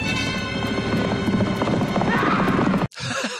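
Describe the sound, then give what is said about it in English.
Dense hoofbeats clop rapidly as several horses of the Ringwraiths charge at Aragorn in a film scene, with a horse neighing partway through amid loud, chaotic commotion, then a brief sharp cut before the noise resumes. “Okay, so far the Ringwraiths haven't been the most challenging of foes, but bringing your feet to a horse fight is never a good idea.”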